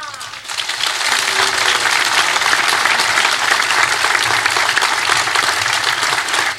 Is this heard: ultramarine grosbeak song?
no